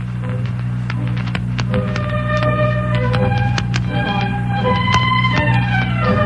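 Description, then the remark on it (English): A clock mechanism ticks with a string of sharp clicks, some leaving brief ringing metallic tones, all over a steady low hum. No one speaks. “No, clock. That is the clock.”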